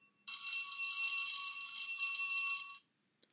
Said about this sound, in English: Suddenly, the bell rang.